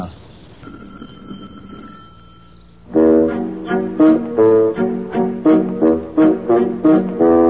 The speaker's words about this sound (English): Ah, here we are. Try the bell.